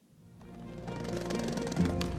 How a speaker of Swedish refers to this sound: I think it's a man jumping in the air doing a trick on a skateboard.